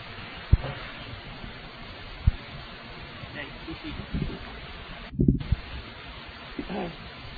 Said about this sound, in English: Somebody bring in some chairs, it sounds like.